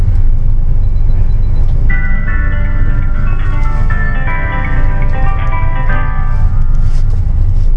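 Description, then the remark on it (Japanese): A large Chuo Bus highway bus (Highway Otaru service, bound for Sapporo Station via Maruyama) rumbles loudly as it departs, a layered mechanical whine rising and stepping upward through the middle as it gathers speed. No one speaks. “丸山経由、札幌駅は行き発車します。”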